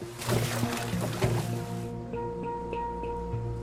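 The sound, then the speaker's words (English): A huge block of salt is emptied into water at manatee pools to turn fresh water into ocean water, with a loud, rushing splash lasting a couple of seconds, then a steady mechanical hum with faint watery trickles. “A huge block of salt is emptied into water.”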